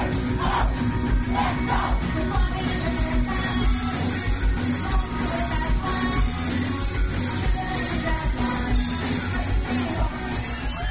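A crowd yells and whoops steadily over a loud, dense wash of live rock music from a Japanese band playing songs from its latest album, at the indie club Nice and Sleazy in Glasgow. The cheering holds at a constant high level for the whole stretch.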